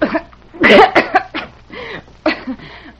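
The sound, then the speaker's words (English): A person coughs and clears their throat in a run of several harsh, rasping bursts spread over a few seconds, with no talking. “My voice just won't behave when I feel a cough coming on.”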